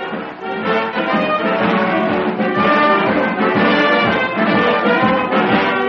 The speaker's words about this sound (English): Ah, now this must be the band that plays on the station to drown the language of people who've missed their trains.